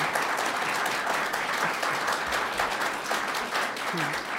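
A crowd applauds steadily as the 19th district candidates are welcomed, many hands clapping in a dense, continuous patter at even loudness throughout, with faint voices murmuring underneath.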